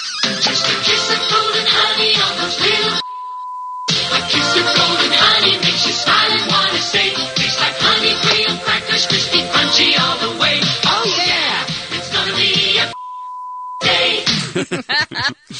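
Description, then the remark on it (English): An upbeat TV commercial jingle for Golden Grahams breakfast cereal plays loud and full, cut twice by a steady high beep tone that briefly replaces the music before it resumes. “What breakfast cereal is this a commercial for?”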